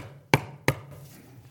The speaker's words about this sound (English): I love that language of knocking. When you go to someone's house, do you just do this? Is that what we do? But that is how we treat prayer, isn't it? But it's a knocking. Knocking.